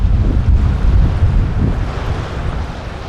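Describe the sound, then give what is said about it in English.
Steady wind buffets the microphone with a low, rumbling roar while waves wash in beneath it, a continuous outdoor beach ambience at Williamstown Beach, Melbourne, with no voices. “On the other side of Melbourne, at Williamstown Beach, there's a group of open water swimmers called the Williamstown Mussels, and they swim together all year round.”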